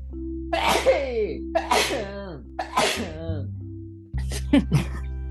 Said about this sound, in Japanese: ちょっとくしゃみしていい？ うん。